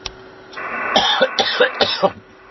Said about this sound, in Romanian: Da, îmi cer scuze. A trebuit să tușesc și na.